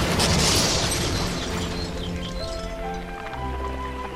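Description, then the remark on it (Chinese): A loud gunpowder blast, from gunpowder poured into a hole dug in a large round boulder and lit by a rolled-cloth fuse, bursts out at once, followed by a rough, crumbling rumble of the shattering rock as the boulder loosens and rolls into the sea, slowly fading under a steady low drone. “过不久，火药终于把大圆石的岩石炸个粉碎，大圆石松动，滚啊滚的掉进了大海。”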